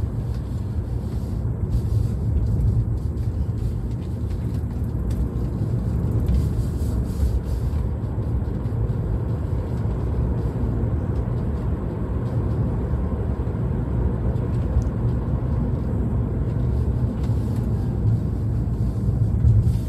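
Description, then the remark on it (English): An S4 service truck engine runs steadily, a loud, continuous low rumble with a droning hum that holds even for the whole stretch. No voices are heard. “S4 service truck.”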